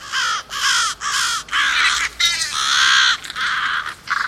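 Several crows caw loudly in rapid, overlapping bursts, a raucous chorus of harsh calls with only brief gaps between them.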